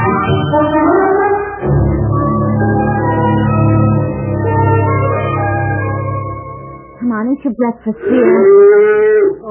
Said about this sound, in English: Oh, now who's out in that garage stirring up those cows?